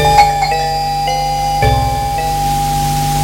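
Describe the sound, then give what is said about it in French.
A telephone rings with a loud, steady electronic tone, its pitch shifting in short repeated steps over a few seconds, with no voices. “Plus tard, la sonnerie de téléphone retentit.”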